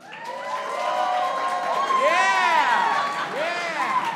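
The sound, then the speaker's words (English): A crowd cheers and whoops loudly for about four seconds, rising and falling voices layered over a steady wash of clapping and shouting that stays strong throughout. “If you would rather have unlimited McDonald's but have to summon a portal in a bathroom every single time, make some round of applause.”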